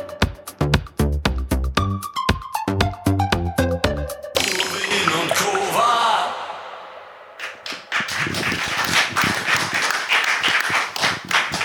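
A few seconds of plucked, rhythmic music from a video being played give way to a live audience's applause, a dense, steady wash of many hands clapping that dips briefly and then swells back up to the end.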